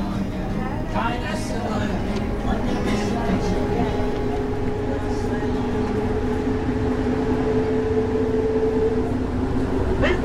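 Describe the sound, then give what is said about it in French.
Steady rumble and rattle of a metro train in motion, with a tonal motor whine that rises and falls, heard from inside the carriage with faint, indistinct voices; announcements give a connection to metro line A toward Perrache and the Hôtel de Ville and Vaulx-en-Velin La Soie stops. “Correspondance métro A, direction Perrache.”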